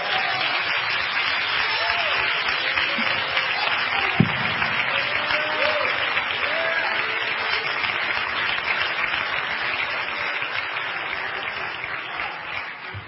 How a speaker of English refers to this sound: Come on and clap your hands, everybody.